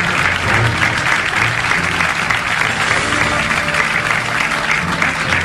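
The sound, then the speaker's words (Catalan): A crowd claps loudly and continuously for about five seconds for the women's winners' podium at the RAC1 race prize-giving in Salou, a dense, steady wash of applause with no pauses and some faint voices mixed underneath. “Un fort aplaudiment, sisplau, pel podi femení.”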